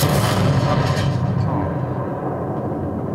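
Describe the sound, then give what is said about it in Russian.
A close-range tank cannon shot in a video game: a loud, heavy blast that rolls into a dense, rumbling tail, its bright crackle fading over a few seconds while the low roar lingers. “Это ближняя дистанция выстрела, потому что есть еще, допустим, дальняя дистанция.”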